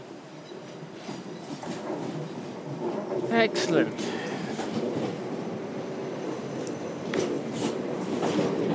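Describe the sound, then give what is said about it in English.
A train rumbles into a station, wheels clattering on the rails with a brief metallic screech midway, while a voice speaks briefly over the steady, loud noise. “Here comes my train.”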